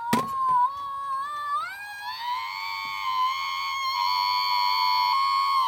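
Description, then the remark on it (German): After a click, a novelty alarm clock lets out a recorded human scream, originally recorded for an LP: one long, shrill, piercing shriek that climbs in pitch, then holds steady and loud for several seconds, with no talking. “Hier ist der Schrei vielleicht besser zu hören.”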